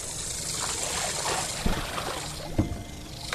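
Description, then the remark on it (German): Water laps and splashes steadily against the hull of a small moving catamaran driven in wind by a rotating rotor instead of a sail, its electric outboard motor switched off; a continuous wash with a couple of sharper slaps standing out, no voices. “Jetzt haben wir gerade Wind, es plätschert schon.”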